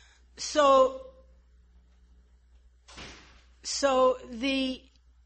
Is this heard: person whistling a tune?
no